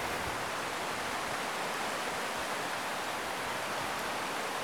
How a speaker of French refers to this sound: Et non, ce n'est pas la pluie, c'est le ruisseau qui coule.